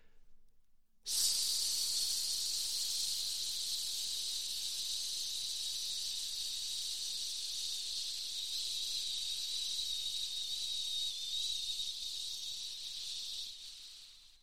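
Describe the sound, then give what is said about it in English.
A long, steady hissing "sss" breathed out by a voice after a standard breath, as an airflow exercise, starting abruptly after a second of quiet and holding evenly for about twelve seconds before fading out. “repeat the exercise with a touch of vocality to it, swapping the S for a long but gentle Z sound”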